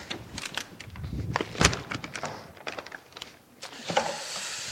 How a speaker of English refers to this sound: Let me grab my water bottle here.